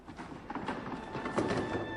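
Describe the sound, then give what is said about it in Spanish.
Chairs being shoved and dragged across a stage floor during Pina's dance piece Café Müller, a continuous run of irregular wooden knocks, clatters and scrapes at moderate loudness with no voices. “Oímos, esos son sillas.”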